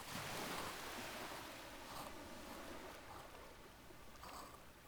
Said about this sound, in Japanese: 波の音とかもこの方がしっかり聞こえてるんじゃない？